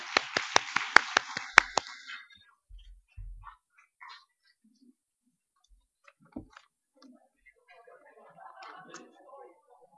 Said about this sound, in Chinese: 咁我们都俾啲掌声所有的父亲。